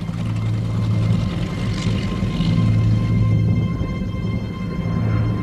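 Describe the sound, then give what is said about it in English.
Steady, loud drone of P-38 fighter planes' propeller engines, a deep continuous rumble with harmonic tones, holding constant as the planes take off on a mission. No voices. “Flying at the very limits of their range, The P-38s needed to be airborne and in formation as quickly as possible.”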